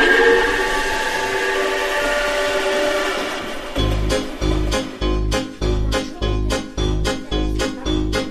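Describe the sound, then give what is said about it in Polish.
A steam locomotive sounds a long, steady whistle, then starts pulling away with loud, regular chuffing bursts that repeat about twice a second. “Bardzo dziękujemy, wsiadamy do pociągu i jedziemy dalej.”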